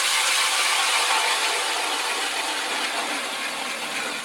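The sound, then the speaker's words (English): A powered ice auger drills through the ice of a reservoir in Marathon County, Wisconsin, for water tests, with a continuous, harsh grinding whir, steady and loud for several seconds before easing slightly at the end. No voices. “Snowmobiles are better, and ice augers are no longer powered by hand.”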